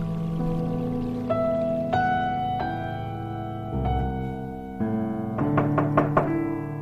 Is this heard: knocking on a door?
yes